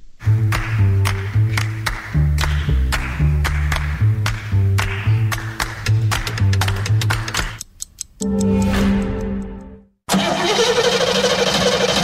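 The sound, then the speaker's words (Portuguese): A truck engine cranks over and over with a steady, chugging starter rhythm for several seconds, then catches with a loud roar and settles into a heavy, continuous rumble. “Vou ali ao Milênio ver se mete isto a andar. O quê? O caminhão?”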